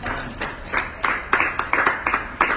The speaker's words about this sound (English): Somebody ought to give God a hand clap of praise for that.